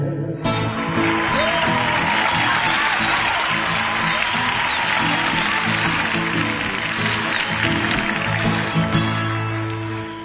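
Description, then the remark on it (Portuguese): A sustained burst of crowd applause and cheering for a coffee farmer, dense and steady for about ten seconds, with a few whistles rising above it and a faint musical hum underneath. “Foi uma salva de palmas, gritaram vivas pro fazendeiro que tem 1 milhão de pé de café por esse rico chão brasileiro.”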